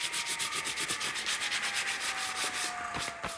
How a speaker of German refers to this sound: Ich war am Sägen. Holzplatten. Für einen Ferienworkshop mit Kindern.